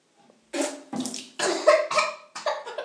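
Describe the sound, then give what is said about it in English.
A woman gargles water over a sink during a contest: a run of about five bubbly, throaty bursts with a voiced tone underneath, fairly loud and uneven, following a short moment of quiet. “More water, more water. More gurgle.”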